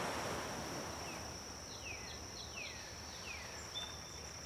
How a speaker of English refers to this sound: You see the beach stretch alongside the water. The ocean is very calm.